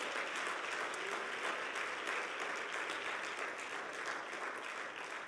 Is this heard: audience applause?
yes